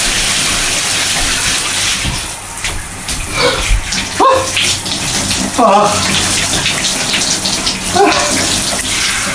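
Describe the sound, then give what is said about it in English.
Steady rushing water pours continuously from a running shower that a person is about to step under and turn to cold, with a few brief splashes and gurgles breaking through the constant hiss. “Okay, the shower is on. I'm about to get under it and turn it to cold and see what happens.”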